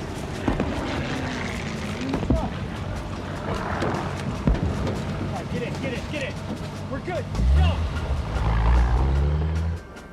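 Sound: truck engine running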